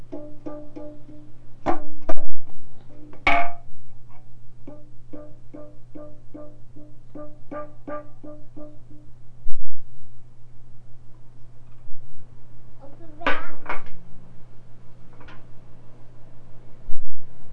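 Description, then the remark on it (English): A child repeatedly bangs a pan on their tummy and knee, making dull knocking hits in uneven bursts, some quick runs of taps and a few louder strikes, over a steady low background hum. “Yeah, now you're banging it on your tummy. You're banging it on your knee.”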